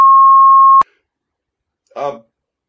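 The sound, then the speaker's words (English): A loud, steady censor bleep tone holds for nearly a second and cuts off abruptly; after a short silence, a person briefly speaks. “Did I just get beeped when I said...”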